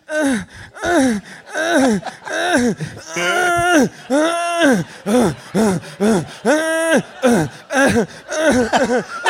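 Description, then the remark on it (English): A voice imitates a secret agent's heavy, rhythmic panting and whimpering in a slow-motion movie scene, a fast series of breathy gasps and strained, pitched moans repeating steadily without any words. “That whimper is really unbecoming of a secret agent.”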